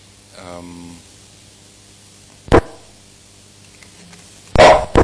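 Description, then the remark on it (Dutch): A dog in the room gives a short whining yelp, then two sharp, loud barks a couple of seconds apart, with no talking over them. “Kan die hond weg?”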